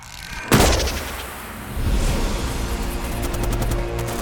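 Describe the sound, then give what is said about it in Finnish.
A sharp gunfire bang erupts early, followed by a continuous roar of rumbling shots and crackling fire that stays loud and dense throughout, with no voices; groups of military recruits shooting during an exercise. “Eihän tämä niin paha ole, totesin puoli ääneen ammunnan paukkeen keskellä.”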